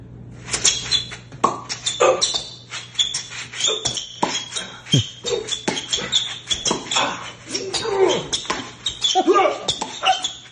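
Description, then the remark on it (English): A voice imitates what a blind person hears of a televised tennis match, with a rapid, busy stream of high-pitched squeaks like sneakers on a court, mixed with sharp pops and clicks of hitting, running nonstop for about ten seconds. “Well, I was just going to show you what a blind guy hears when tennis is on television.”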